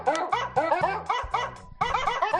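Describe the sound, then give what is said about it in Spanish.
A dog barks rapidly and repeatedly, about six sharp, loud barks in quick succession, with no voices or other sounds around them. “Los perros. Por si alguien dice que son los castores, los perros.”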